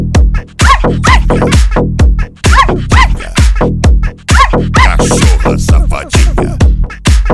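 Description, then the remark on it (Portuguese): A female dog barks over and over in quick succession, loud, sharp high-pitched yaps coming roughly twice a second with barely a pause between them. “arrasta essa placa, cachorra safadinha.”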